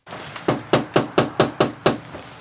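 Seven steady knocks rap on a front door in North Bennington, Vermont, in an even rhythm, each a sharp thud with a short decay, and no voices.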